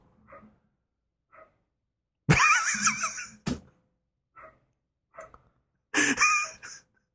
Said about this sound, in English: Sorry, I hear your dog in the background.